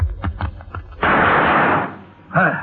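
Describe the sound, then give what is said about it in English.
Several quick, sharp gunshots crack in rapid succession as a gun is fired at tossed chips, followed by a loud, rushing burst of noise that slowly fades before a man's voice begins speaking. “That was nice shooting, Cisco. You beat me to those chips.”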